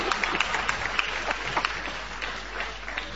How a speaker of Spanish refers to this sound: aplauden.